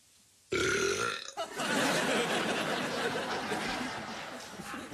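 loud burp

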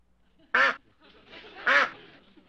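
duck quacking

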